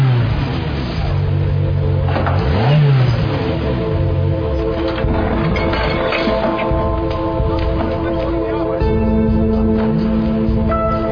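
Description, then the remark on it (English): A car engine with its left bank running lean idles with a steady, buzzing hum, then revs up and back down in quick swells of rising and falling pitch, loud and continuous throughout. “Sounds like the left bank's running lean.”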